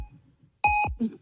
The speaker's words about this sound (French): Quand il bip 3 fois comme ça, c'est qu'il est motivé.